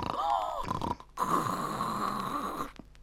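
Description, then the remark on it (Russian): Two long, loud, raspy snores of a wolf sleeping under a bush: a shorter rattling one, a brief pause, then a longer drawn-out breath with a rough, fluttering texture, ending in a couple of faint clicks. “Видит, под кустом волк спит, страшным голосом храпит.”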